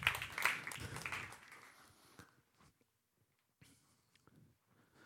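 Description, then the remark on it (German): A short burst of audience applause, dense at first, then thinning out and fading within a couple of seconds, leaving a few scattered claps and small knocks in near silence. “Gebt ihnen doch einen riesen Applaus für ihren Einsatz.”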